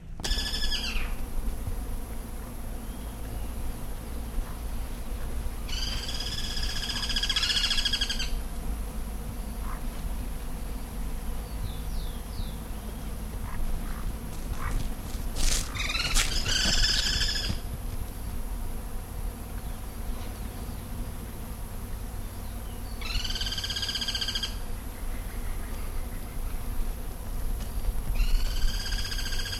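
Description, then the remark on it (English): A chorus of about six gyr cuckoos in tum trees at the edge of a newly plowed pasture on the tum orchard side calls in repeated bursts of stacked, harmonic notes, the calls recurring every few seconds over a steady buzzing insect drone and low background hum. “That was a chorus of gyr cuckoos. There's about six of them.”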